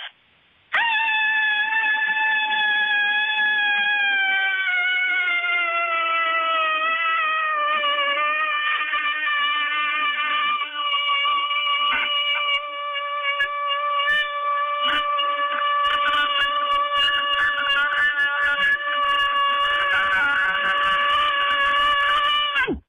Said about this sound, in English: I had two blind horses all winter to take care of outside, and I am so ready for spring. Here is my cabin fever scream.